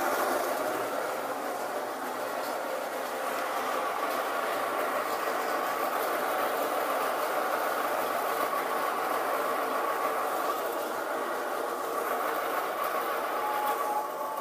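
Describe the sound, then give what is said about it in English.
An electric coffee grinder with a timer grinds coffee beans, a loud, steady whirring roar with a gritty edge that holds at an even level the whole time, with no voices over it. “Pour it in my grinder. This is going to get really loud, so I'll try and back away if I can.”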